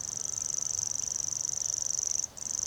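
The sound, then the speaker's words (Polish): A common grasshopper warbler reels in a continuous, high, insect-like trill, fast and mechanical, broken by one brief pause near the end. The song sounds clear against quiet background hiss. “Świerszczak ćwierka.”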